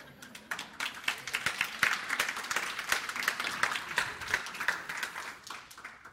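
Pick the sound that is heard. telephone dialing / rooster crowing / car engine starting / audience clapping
audience clapping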